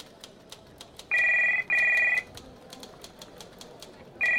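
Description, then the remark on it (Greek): A telephone rings in two long buzzing bursts, then a third begins, steady and electronic against a faint background with light clicking, like typing, throughout. It is a call to the office phone of the Technodomi technical office, answered by the secretary. “Τηλεφωνεί στο γραφείο του και μιλάει με τη γραμματέα του”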